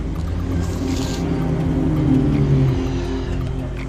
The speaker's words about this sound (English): A car pulls up.